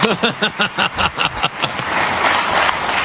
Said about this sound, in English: How about a round of applause for the voice of the Badgers?